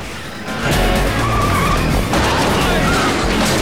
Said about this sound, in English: Kelly presses a button which lowers a ramp onto the third of Gundar's cars, allowing them to reverse off the lorry.